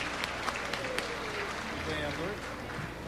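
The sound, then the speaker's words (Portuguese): Steady applause from an audience at a ceremony, a dense wash of many hands clapping at a fairly even level, with a voice faintly audible underneath toward the end. “salva de palmas”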